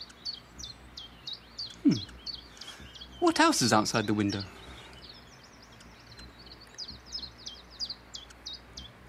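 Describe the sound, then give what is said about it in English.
Small birds chirp steadily outside a window in quick, high, repeated tweets throughout, while a voice briefly speaks partway through. “Goodbye, bird!”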